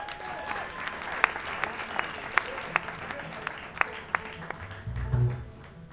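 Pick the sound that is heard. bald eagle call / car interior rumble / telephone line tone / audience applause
audience applause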